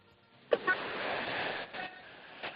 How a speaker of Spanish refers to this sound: Qué grande, dale un poquito ahí a la bocina para que sepan que hay, que está pasando un español.